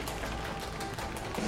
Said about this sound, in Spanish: Y el ganador a Mejor Usuario del Año es... Redoble de tambores, por favor.